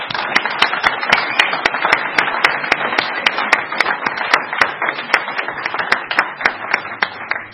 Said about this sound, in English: Thank you. Thank you to everybody, because it's appropriate to say thank you for the applause.